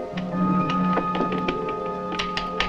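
footsteps

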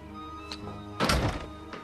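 door bursting open

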